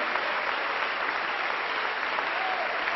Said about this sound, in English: You should give yourself a round of applause. Ihr solltet euch dann selber applaudieren.